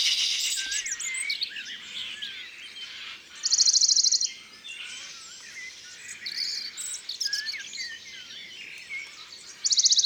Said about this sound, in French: Ça, c'est un pouillot de Bonelli.